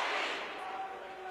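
A loud, steady roar of the Blackman home crowd cheering at a basketball game in a gym as a player steps to the free throw line, a dense wash of many voices filling the space for a second or so without letting up.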